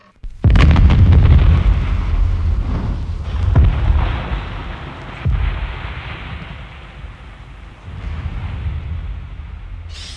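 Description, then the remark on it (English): A sudden, loud parcel bomb blast erupts with a deep, booming roar, followed by a long rumbling tail and a couple of further heavy thumps as it slowly dies away. “Boris was aware of a muffled thud as the glasses jingled in the china cabinet”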